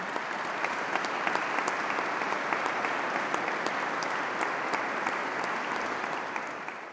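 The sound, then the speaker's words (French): An audience at a prize-giving ceremony of the Institut de France claps steadily for the standing prize laureates, a dense, even wash of applause that holds for several seconds, then begins to taper off at the end. No one speaks. “Les lauréats voudront bien se lever. Je vous demande de les applaudir.”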